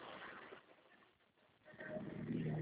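Steady road traffic rumble on the Marginal highway, a broad continuous noise that dips briefly in the middle and then swells louder toward the end, with no one speaking.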